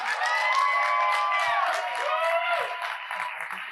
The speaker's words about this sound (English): Please stand and give a big round of applause for Jacob and Jamie Fitzgerald.